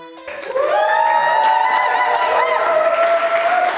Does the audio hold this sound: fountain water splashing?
no